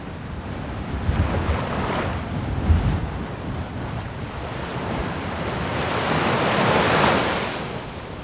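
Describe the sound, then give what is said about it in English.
Rough wind buffets the microphone while heavy waves surge and crash, a constant roaring wash with a few deeper thuds and a swelling rush toward the end, heard on the deck of a ship at sea as a storm with large waves and strong winds builds. No one speaks. “Just before the storm got really intense, we braved a walk up on the deck.”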